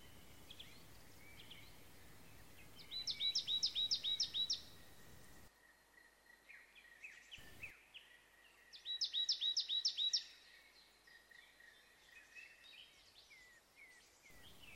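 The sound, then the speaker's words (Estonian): Wild Estonian birdsong from nature sound recordings, including of Lahemaa, outdoors: two bright bursts of rapid, repeated high trills, each lasting about two seconds, with softer chirps and calls scattered between them. No one speaks. “Saates kõlas eestimaine linnulaul plaatidelt … ja ….”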